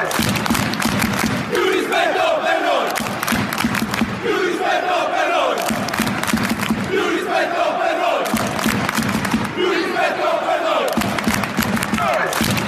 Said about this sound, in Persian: این قسمتی از شعار اولترا هاست که توش میگن ما احترام بیشتری از طرف مدیریت میخواییم.